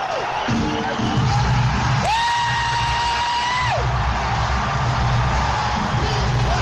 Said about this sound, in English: Here come the crowd